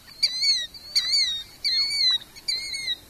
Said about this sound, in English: He's actually saying killdeer, or at least that's the closest that I think most people agree on, that vocalization.